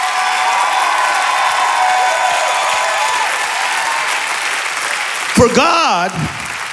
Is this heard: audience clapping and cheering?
yes